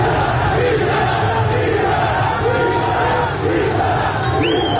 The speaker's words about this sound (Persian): تصاویری هم از درگیری نیروهای امنیتی و پلیس با معترضان در اطراف باغ سپهسالار منتشر شده که فریاد بیشرف بیشرف از سوی معترضان شنیده می شود.